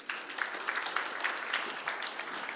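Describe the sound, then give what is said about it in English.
A crowd claps steadily for a chief sports writer of the Irish Daily Star introduced as a panel guest, a dense patter of many hands at a fairly even level throughout, with no voices standing out above the applause. “Please give him all a round of applause.”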